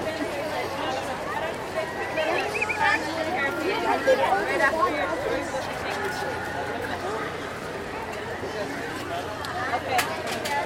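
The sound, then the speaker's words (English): A steady wash of crowd chatter from people waiting in the Splash Mountain single rider line, many overlapping voices murmuring with no single speaker standing out, fairly even in loudness with a few brief louder bursts. “Okay, we're out of the background loop areas and only have ambient crowd noises.”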